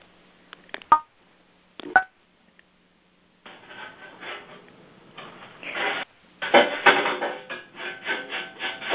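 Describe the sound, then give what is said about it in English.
Pots and pans clatter in the background of a phone call from a participant who has not muted: two sharp, ringing clanks, then a stretch of continuous scraping and rummaging that comes and goes at moderate volume, with no voices. “So I'm hearing some background noise of pots and pans, so if whoever it is could mute themselves, even though we're in our final moments.”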